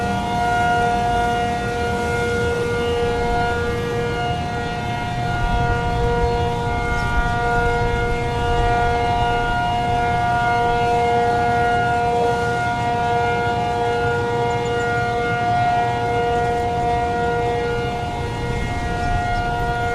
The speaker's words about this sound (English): yesterday, I was home yesterday afternoon doing some stuff, and all of a sudden I heard alarms going off left, right, and center.